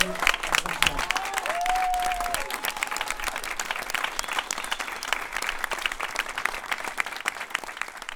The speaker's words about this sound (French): La première chose que je souhaite dire, c'est que je souhaite que vous vous applaudissiez et qu'on s'applaudisse tous et toutes les uns les autres parce que...